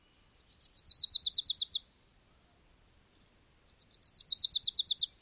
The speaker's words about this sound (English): The first time I got a visual of this bird giving this outrageously loud call for its size, I couldn't believe it. This teeny little yellow, black-headed Wilson's warbler. Dark cap on the Wilson's warbler.